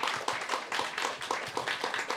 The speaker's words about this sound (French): Bon, on peut t'applaudir carrément.